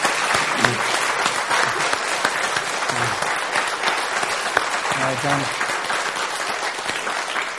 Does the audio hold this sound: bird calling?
no